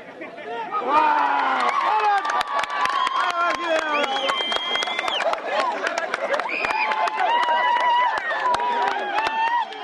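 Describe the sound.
A wrestling bout amid a loud, steady roar of crowd cheering, with many overlapping shouting voices, high excited calls and scattered sharp claps or slaps; the wrestlers clinch, hop and pivot, both go down, and one's shoulder thumps the dirt.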